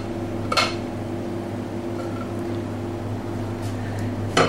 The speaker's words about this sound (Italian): Apriamo con un altro piatto e con gran cura rovesciamo tenendo la distanza.